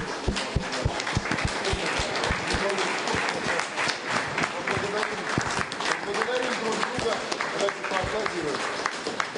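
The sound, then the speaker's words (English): A group of participants applaud each other together in sustained, dense applause lasting several seconds, fairly loud, with scattered voices murmuring underneath. “Let's thank each other and applaud.”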